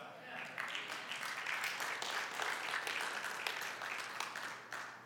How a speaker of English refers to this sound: And so we applaud him.